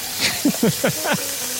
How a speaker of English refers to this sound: I can't hear you over the pressure spray of bleach.